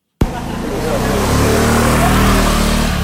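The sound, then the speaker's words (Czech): Steady roar of busy street traffic near the centre of Taipei in the evening, by the Guangzhou night market with food stalls, engines of cars and motorcycles droning and revving, starting abruptly and holding loud throughout. “Přecházím rušnou ulici nedaleko centra Taipeje. Všude jsou motorky, auta a taky stánky s nejrůznějším jídlem.”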